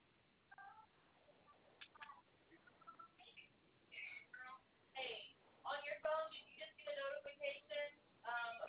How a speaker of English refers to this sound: No, it's a notification on your phone. Yeah, it's probably someone trying to sign in and give you a setup number.